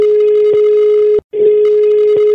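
A steady telephone ringback tone hums on the line, broken by one brief gap, with no voices, as a radio show calls a listener in Tuscany for a poll on the price of cherries.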